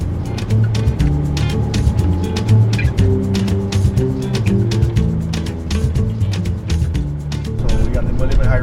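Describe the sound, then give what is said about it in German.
Steady low engine rumble of a taxi driving down the Caribbean coast toward Soufrière on the Millennium Highway, heard from inside, with frequent small rattles and bumps from the road and indistinct voices murmuring beneath. “Wir fahren jetzt mit …, meinem Taxifahrer, die Karibikküste runter nach Soufrière.”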